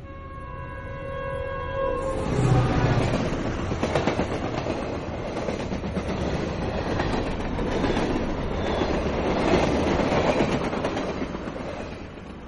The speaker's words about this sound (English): Well, that wasn't our usual breaker tune. That was a recording of a work train that Neil made, and as he described it, it was going who knows where.